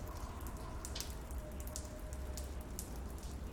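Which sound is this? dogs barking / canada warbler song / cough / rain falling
rain falling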